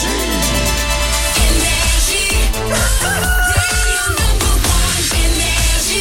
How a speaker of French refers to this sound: Il est 8h, qu'on amène le coq.